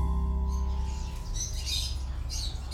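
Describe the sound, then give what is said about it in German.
A flock of caged birds in a room full of cage birds chirps busily and continuously, their overlapping high tweets filling the room over a low steady hum, with no one speaking. “Hinter ihm konnte ich erkennen, dass sein Zimmer voll mit Käfigvögeln war, die alle zwitscherten.”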